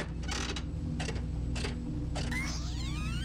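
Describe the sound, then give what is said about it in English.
A big fruit machine's reels spin in a series of short clattering, ratcheting mechanical bursts, followed by swooping electronic tones, all over a steady low hum. No one speaks. “She's going for the big fruit machine.”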